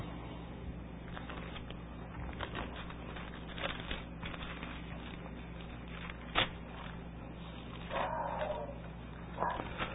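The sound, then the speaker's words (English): A household dog barks a few times, muffled and fairly faint, with short yaps near the end over a steady low background hum and occasional small knocks. “Our dog barking away.”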